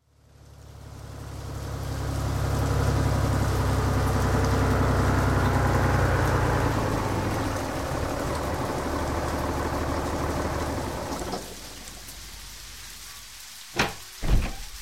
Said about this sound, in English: Your grandfather is on his way in the tractor.